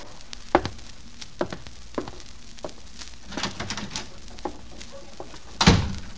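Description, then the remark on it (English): A door opens and closes: scattered light knocks and taps, then a louder, sharper thud near the end as it shuts, with no one speaking. “Walk out that door.”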